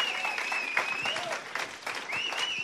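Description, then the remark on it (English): An audience breaks into sustained applause, giving Jesus a big hand clap, dense overlapping hand claps with a steady wash of noise, while a high sustained tone, like a feedback whine or held note, drifts above it. “Come on, can we give Jesus a big hand clap?”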